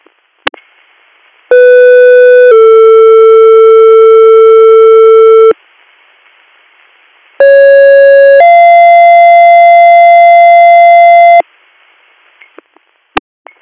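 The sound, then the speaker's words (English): Loud two-tone EMS dispatch alert tones sound twice, paging Guthrie EMS to a call for a male patient with severe abdominal pain: a short higher tone dropping into a longer, lower steady tone, with brief radio clicks before and after and no talking. “EMS, disregard your tones.”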